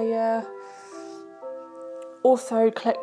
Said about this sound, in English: Oh, as you can hear in the background, my chime and clock's going off.